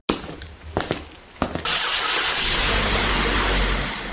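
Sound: car engine starting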